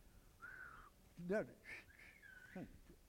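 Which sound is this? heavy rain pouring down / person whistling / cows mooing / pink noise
person whistling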